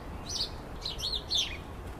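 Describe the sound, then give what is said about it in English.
A cluster of house sparrows squabbling in a hedge, with quick bursts of overlapping chirps in three or four flurries over a low rumbling background, not loud. “every so often, I hear a right commotion in the hedge, just like I'm hearing now”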